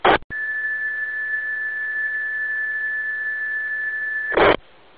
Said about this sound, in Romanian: Da, îmi pare rău, mai mult de un ton undeva la vreo 2 kHz.